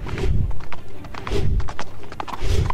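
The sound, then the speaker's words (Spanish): A horse gallops at full speed, its hooves striking in quick, rhythmic clusters of heavy thuds that repeat steadily, with no voices present. “Mi corcel galopaba a toda prisa, temiendo de la bestia que nos impedía ver el cielo.”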